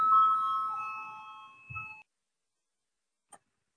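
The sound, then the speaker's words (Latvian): An electronic voting bell in a parliament session chimes clearly for about two seconds, rung to call a vote on the 20th proposal; a steady bright tone with ringing overtones that cuts off abruptly, followed by silence and one brief faint click. “Lūdzu, zvanu, balsosim par 20.”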